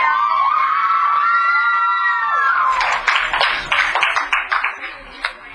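An audience bursts into high, sustained whoops and cheers for a few seconds, then breaks into a round of loud, scattered applause that gradually thins out.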